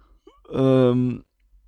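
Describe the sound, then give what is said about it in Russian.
A single voiced yawn, a drawn-out, steady 'aah' lasting under a second that rises in and cuts off fairly abruptly, with a faint breath before it and near silence around it. “Я опять зевнул, прошу прощения, отвлекся.”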